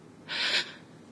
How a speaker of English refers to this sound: You immediately catch one in your mouth, biting harder and harder until you hear me gasp.